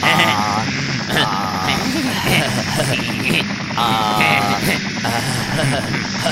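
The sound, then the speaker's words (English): A stolen helicopter's rotor runs continuously as Beavis and Butt-Head try to fly it, a loud, steady churning drone filling the whole stretch, with brief voice-like sounds surfacing over it. “Stole a helicopter.”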